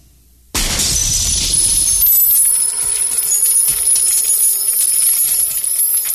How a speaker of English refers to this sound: And shatters him into a million silver dollar pieces all over the floor. Pretty badass special effect.